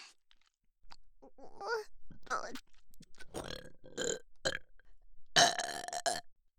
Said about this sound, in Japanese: 汚いゲップ、もっともっと聞いてほしいよ。